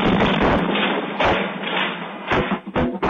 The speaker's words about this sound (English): Residents in and around the city of Port Neches were told to leave on Wednesday after a large explosion tore through the TPC Group chemical plant 80 miles east of Houston. A home security camera captured the blast in the middle of the night.